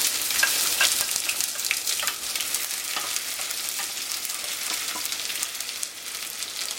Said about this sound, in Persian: خب دوستان عزیز، من قابلمه رو گذاشتم یه مقدار گرم شد، بعد روغن رو بهش اضافه کردم و روغنم باز مجددا گذاشتم یکم گرم بشه و الان پیازو بهش اضافه میکنم.